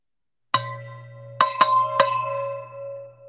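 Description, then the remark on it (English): A metal water bottle is struck four times to mimic a bell sound, ringing like a bell with bright, sustained tones; the strikes come in an uneven rhythm with a lingering resonant decay, with no talking. “How did you do that? My water bottle.”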